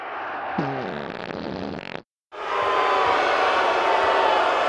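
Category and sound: sound effect, whoopee cushion fart noise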